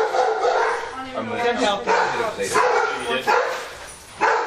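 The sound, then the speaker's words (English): Dogs bark repeatedly at visitors despite something put up to block them, a steady run of sharp, loud barks mixed with higher yips and a little whining, continuing for several seconds. “I put up something to block them, but they're still barking at you guys.”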